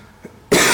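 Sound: cough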